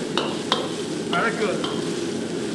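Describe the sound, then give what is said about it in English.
Chicken put back into a wok with hot chilies, Sichuan peppercorns, ginger, garlic and scallions and stir-fried: a steady, loud sizzle with several sharp metallic scrapes and clanks of a spatula breaking through at irregular moments. No voices. “Back in goes the chicken, and that's it.”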